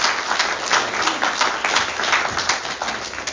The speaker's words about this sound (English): Yeah, that deserves a clap.